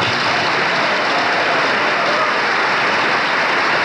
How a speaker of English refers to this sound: And once again, the crowd of congressmen, senators, cabinet members here in the East Room of the White House on its feet applauding Gerald Ford, minority leader of the House of Representatives